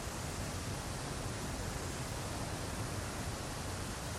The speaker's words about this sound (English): And this waterfall in Aligudar city, I'm in, Ab Sefid waterfall, is the bride of Iran's waterfalls. Listen to the delightful symphony of water.